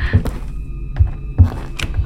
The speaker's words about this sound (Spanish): Se escuchan puertas y pasos.